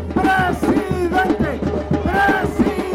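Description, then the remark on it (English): A large crowd at a rally in Mexico for presidential frontrunner Andrés Manuel López Obrador chants "President, President" in loud unison, a rhythmic two-part shout repeated over and over, with a steady low hum running underneath. “Shouting, "President, President," the crowd at this recent rally celebrates López Obrador's frontrunner status.”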